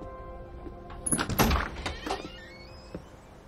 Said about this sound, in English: Claire approaches a house. Alistair answers the door, his long sandy hair pulled back.